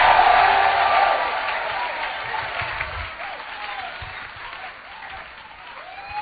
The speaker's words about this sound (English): Come and clap your hands and scream it like your voice is yours and praise God.